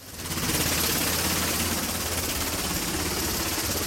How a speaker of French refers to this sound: Le balai des hélicoptères transportant les ouvriers du pétrole du continent vers les plateformes en mer fait partie de l'identité norvégienne depuis 50 ans.